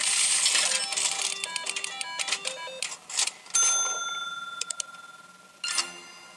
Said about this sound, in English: Try again, really? The prize machine, has anyone suggested to you or are you conscious that it looks like and sounds like a slot machine, a poker machine?